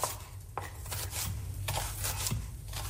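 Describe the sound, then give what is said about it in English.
Kitchen sounds of food being chopped while making borscht for a shared meal: a handful of sharp, irregular knife taps on a board over a low, steady background hum, moderately quiet, with no talking. “I'm going to end with one of those sounds from a kitchen and a shared meal.”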